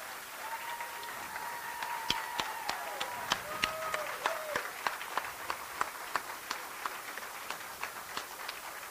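An audience claps steadily for several seconds, a moderate round of applause with sharp individual claps standing out, recorded in a room with a faint tonal whine in the background.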